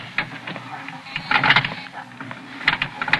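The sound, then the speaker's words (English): Mechanical clicking and whirring from an elevator motor after a button is pushed, with a straining door sound rising in uneven bursts over a low steady hum, and no voices; the door stays open and the elevator does not move. “And the motor clicked and the door strained, but stayed open.”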